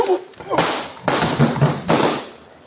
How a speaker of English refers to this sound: Try anything fancy, and the next slap will be with this pistol.